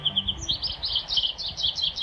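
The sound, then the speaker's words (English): A quick series of bright, twittering calls from an American goldfinch repeats steadily in short bursts, clear, with no voices present. “American goldfinches are one of our most familiar birds, a sunshine sparkle of yellow at the seed feeder.”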